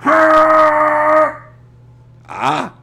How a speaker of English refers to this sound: I'm ready for you this time. I don't need to cover up my ears, because I got snore blockers in my ears. You're loud, but you're not deafening. And don't tell me, all of you Bears fans, well, I've gone in there and the horns never bothered me one bit.